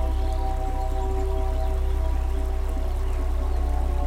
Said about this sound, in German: Es riecht gut. Das gleichmäßige Plätschern des Flusses beruhigt uns.